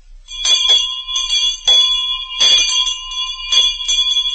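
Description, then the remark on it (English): A bell rings loudly and repeatedly in a General Electric radio advertisement for its Ring the Bell contest, about five bright metallic strikes in quick uneven succession, each ringing tone sustaining and overlapping the next, with no voices. “General Electric rings the bell with a wonderful contest for you.”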